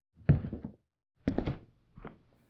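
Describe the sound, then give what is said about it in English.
Three heavy, muffled footsteps thud in a slow, uneven rhythm, the last one softer, as if someone is pacing just beyond a door. No one speaks. “But the footsteps.”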